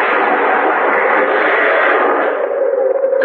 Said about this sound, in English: Oh, that tree almost got me.